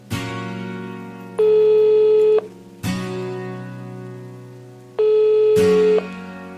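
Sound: telephone call ringing tone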